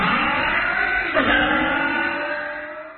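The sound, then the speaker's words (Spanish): A car engine runs steadily, loud and smooth, with a brief rev partway through before the hum eases off slightly toward the end. No one speaks. “Para que tu auto suene así, limpia inyectores de Bardal.”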